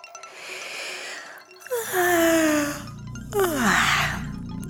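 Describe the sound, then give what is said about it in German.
A breathy inhale leads into two long, voiced yawns as a character stretches one leg after another upward, each sliding downward in pitch and trailing off into a groan-like sigh. No one speaks. “Siebenbein streckt ein Bein nach dem anderen in die Höhe und gähnt.”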